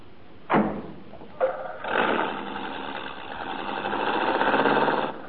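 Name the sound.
car engine running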